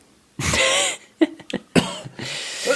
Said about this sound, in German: Ich huste ein bisschen und ich glaube, ich gehe direkt schlafen.